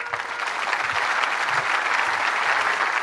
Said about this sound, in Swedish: Han kom nu från seminariets trädgård som han njuter av nu under sin semester och han mottogs med enormt jubel.